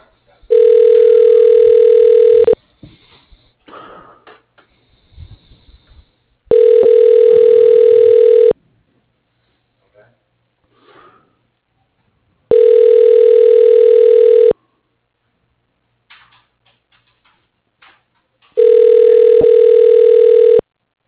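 A phone line rings four times, each steady electronic tone lasting about two seconds and separated by longer pauses filled with faint murmurs and clicks, as a call is transferred to voicemail and waits to connect.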